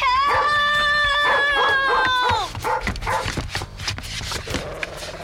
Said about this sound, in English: Let go of my sock! Stop it! Let go, you dumb dog! Let go!